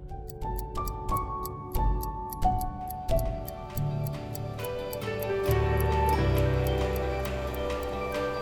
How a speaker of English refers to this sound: No clock, in other words, can have been ticking forever.